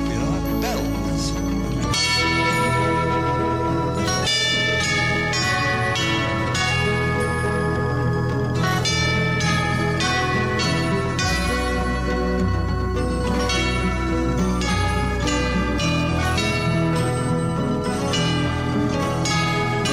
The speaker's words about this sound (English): And then at the very end, we get the tubo bells. And I want you to just hear what they sound like.